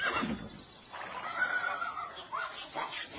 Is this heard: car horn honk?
no